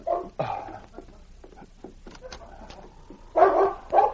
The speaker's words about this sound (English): About half an hour later, Sergeant Preston was aroused into consciousness by the sound of the great dog King barking and scratching at the door.